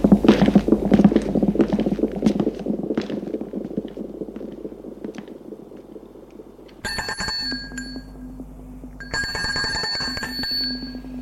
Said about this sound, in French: Un coup de sonnette.